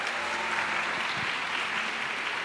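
A steady round of applause from a crowd, dense and continuous clapping that holds at an even, moderately loud level throughout without any talking.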